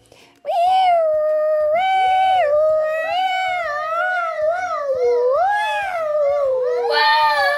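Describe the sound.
Children's high, sustained voices wail in an imitation of a fire truck siren, the pitch rising and falling in slow waves for several seconds without a break, loud and steady throughout.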